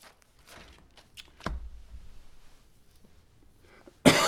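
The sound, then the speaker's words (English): A person with a tickle in their throat clears it with a few soft, scattered sounds, then lets out a sudden loud, harsh cough near the end. “Got a tickle in my throat. It's going to make me start gagging and coughing.”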